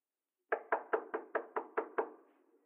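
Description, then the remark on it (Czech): Eight firm knocks on a door in a quick, steady rhythm, each a sharp hollow thud with a short ring, with no voices present; someone knocking to be let in. “pust mě dovnitř.”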